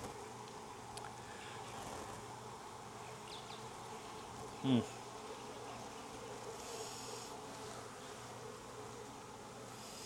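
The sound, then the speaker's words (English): Honeybees buzz steadily in an open hive that is not queenless, a dense droning hum that fills the whole stretch, with one brief louder knock or bump partway through and no talking. “Plenty of bees, but these bees are not queenless.”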